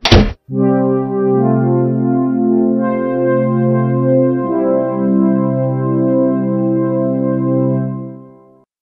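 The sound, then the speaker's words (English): The door of the teva (Noah's ark) shuts behind Noach and his sons with a single loud, heavy thunk, then a sustained, steady chord of layered tones hums on for about eight seconds before cutting off. “Finally, Noach and his sons went into the teva, and the door shut behind them.”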